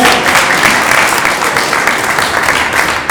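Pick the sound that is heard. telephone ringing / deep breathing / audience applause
audience applause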